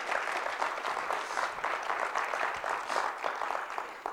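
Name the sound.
audience clapping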